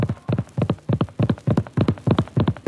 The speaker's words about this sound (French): Automne 1635. Sur la route de Dieppe, Jacques du Parquet force sa monture.